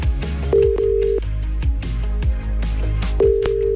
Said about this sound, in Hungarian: Nektek is, és még hogy kinek, az most fog kiderülni, csörgünk. Ha megadod nekem a címzetnek a telefonszámát, akkor én felhívom őt, és átadom neki a te személyes üzeneted.